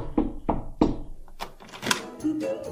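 Three firm, evenly spaced knocks on the wooden door of a house, resonant, followed by quieter shuffling and bumping sounds.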